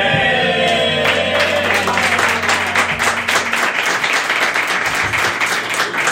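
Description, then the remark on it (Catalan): An audience bursts into loud, sustained applause during a TV show tied to La Marató telethon for respiratory diseases, dense clapping for several seconds, with a low musical tone sustained underneath at the start. “Està molt bé, està molt bé aplaudir la malaltia contra la que s'està recaptant fons.”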